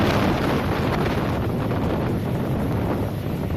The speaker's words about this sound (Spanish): Este es precisamente el sonido de ese mar, las aguas de Terranova, el escenario de la tragedia esta misma mañana. Inmensas olas de hasta 10 metros y vientos que alcanzan rachas de 80 kilómetros por hora.